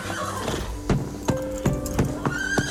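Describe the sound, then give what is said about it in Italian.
Horses whinny and snort while hooves stamp in a series of sharp, irregular thuds, moderately loud, with no talking. “Naturalmente i cavalli dei miei compagni scalpitano perché voi avete rischiato di offendere l'ordine, signore.”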